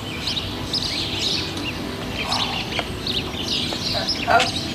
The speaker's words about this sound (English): Are these your birds? No. They won't shut up. Really? Oi, you lot, will you shut up?